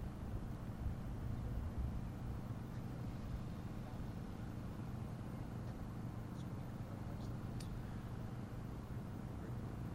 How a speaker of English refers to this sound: So as you can see, the drone hovers safely in place, allows the pilot to focus on the inspection.